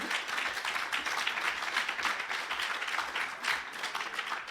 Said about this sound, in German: Applaus.